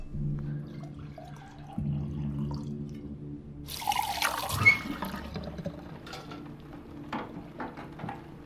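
Another glass of drink is poured: liquid pours into a glass in a short gurgling stream lasting about a second, then a few light clinks and drips follow over a low steady hum.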